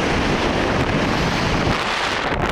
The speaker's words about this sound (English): Enjoy this view. It's the ocean.